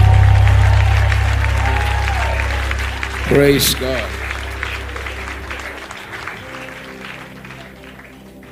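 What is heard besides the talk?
audience clapping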